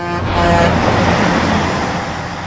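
truck driving past

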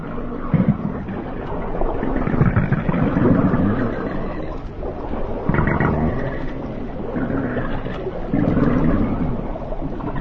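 whale call

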